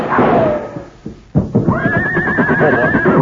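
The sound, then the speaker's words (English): A horse whinnies loudly, a long wavering neigh with a high, trembling pitch that rises and holds for a couple of seconds, following a brief snort and a dull thump. “Well, this horse is safe now, and that means you stand to lose a fortune.”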